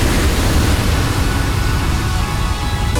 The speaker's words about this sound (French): Ça commence sur un beau bateau pirate, comme ça, avec les vagues, et puis le titre qui parle.